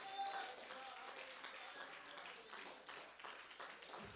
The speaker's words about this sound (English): Give God a hand clap if you believe it.